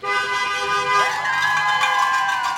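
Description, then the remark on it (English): Car horns honk loudly and steadily from passing vehicles in Southlake, drivers honking in support of campaigners for conservative school board candidates outside a polling entrance on election day, several tones overlapping and bending slightly in pitch as they go by, with faint crowd noise beneath. “They're waving huge, dragon green campaign signs for school board candidates Hannah Smith and Cam Bryan, and yelling for passing drivers to honk their horns in support.”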